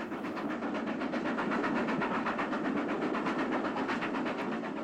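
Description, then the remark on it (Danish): A train with a weak engine rolls steadily along the rails on Valby Bakke hill, loud, with a fast, even rhythmic clatter and a rushing, hissing roar running through the whole stretch, no voices. “Toget stopper næsten på Valby Bakke. Den er for stejl, bakken, og maskinen for svag.”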